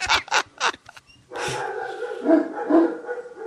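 Several dogs at a house bark in a quick burst of four or five sharp yaps, then break into a long, wavering whine or howl that carries on loudly until the end.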